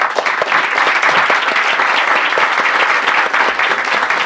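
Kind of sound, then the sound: crowd, round of applause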